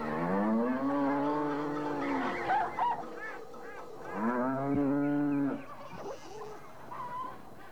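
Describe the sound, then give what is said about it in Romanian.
A farmyard filling with birds and herds of cattle, with two long, loud cow moos, one after the other, while geese honk and other fowl chatter in the background. “Și îndată se umple ograda moșului pe lângă păsări și deșirez de vite.”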